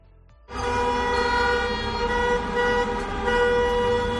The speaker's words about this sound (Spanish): Hoy los dueños y trabajadores de bares y restaurantes han protestado con esas bocinas, con sus vehículos, por Toledo.